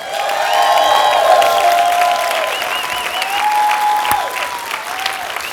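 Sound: audience applause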